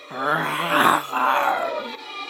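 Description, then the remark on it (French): A voice imitates a lion's roar with two drawn-out, throaty growls in quick succession, fairly loud, with no other talking. “Nuage est un lion.”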